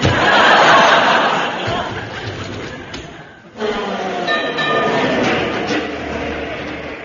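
A number 49 tram rolls in with a loud, steady rumbling clatter that dips briefly, then surges back with thin metallic squeals riding over the noise.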